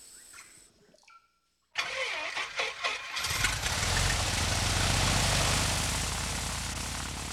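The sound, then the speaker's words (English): The engine of a small mission plane cranks over with a few rapid sputtering turns, then catches and roars into a loud, steady drone that holds strong until the end. “climbed into the mission plane.”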